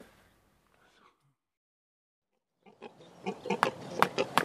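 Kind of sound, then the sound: animal, pig grunting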